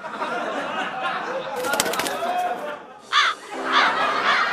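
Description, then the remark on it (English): A giant crow perched on the windowsill of an open window caws loudly a few times in short harsh bursts near the end, following a stretch of busy, noisy background sound. “For some reason, the window is open and a giant crow just perched on the windowsill.”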